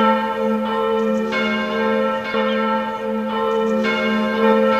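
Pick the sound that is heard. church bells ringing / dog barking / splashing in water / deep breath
church bells ringing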